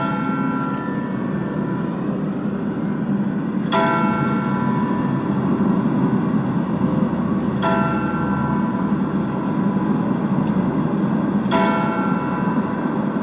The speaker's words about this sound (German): Mit dem Glockenschlag um 14 Uhr geht der Motorradgottesdienst zu Ende. Wir hören jetzt zunächst die kleine Glocke des Michels, die mit 4 Schlägen die volle Stunde ankündigt.